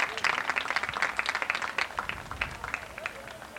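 A round of applause from a crowd for a graduating senior being recognized, dense overlapping claps forming a steady, crackling wash of sound for a few seconds, with some faint voices mixed in underneath.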